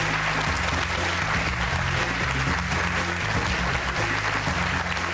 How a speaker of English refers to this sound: Give him a round of applause, ladies and gentlemen.